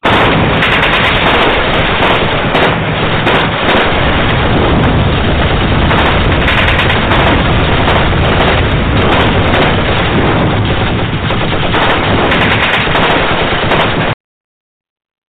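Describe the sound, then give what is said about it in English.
Dense, loud gunfire in the streets across the river from El Paso, Texas, with rapid machine-gun bursts and scattered single shots crackling almost continuously for about fourteen seconds before cutting off abruptly. “Chaos and gunfire in the streets, folks.”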